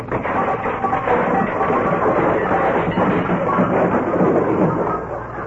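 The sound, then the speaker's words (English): A long, loud cascade of clattering and banging objects tumbles out of a closet as its door is opened, a dense, steady jumble of crashes lasting over five seconds before easing slightly at the end, with no voices. “When Stiver runs to open that closet door, look out!”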